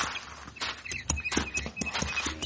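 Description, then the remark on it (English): Horse hooves clip-clop steadily at a walking pace, a fairly loud run of hollow knocks over a faint background hum, with no voices. “After I water my horse, you can tell me how to get to that place.”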